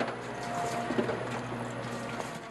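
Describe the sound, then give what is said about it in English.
An automatic orange juicer at a hotel squeezes oranges into a juice glass, running with a steady mechanical hum and a gritty, ratcheting clatter, with a brief clunk near the middle and a faint wet splashing underneath. No one speaks. “A machine squeezes oranges into a juice glass.”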